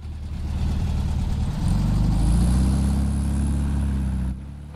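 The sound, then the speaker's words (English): A Volkswagen Beetle, driven by a man in a large Stetson, rumbles steadily, revving up as it pulls out and drives past a stationary car, its low drone rising and then cutting down near the end. No one speaks. “The Beetle, driven by a man in a large Stetson, pulls out and passes the stationary car.”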